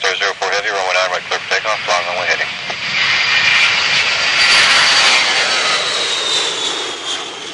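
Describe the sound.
The jet engine of a Northrop Joint Stars surveillance aircraft, a joint Air Force and Army project, roars steadily and loudly, building to a broad, sustained whine. A voice talks over it during the first few seconds.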